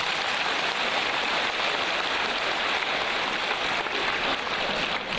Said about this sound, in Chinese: 鼓掌。